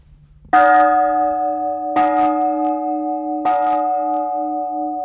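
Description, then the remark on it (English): A large old chapel bell, believed to come from Spain and inscribed St. Francis of Gabriel, Ora pro nobis, 1727, is struck three times at a slow, even pace, each clang ringing out loud with a long, humming sustain that overlaps into the next strike. “This bell right here came from Spain, we believe.”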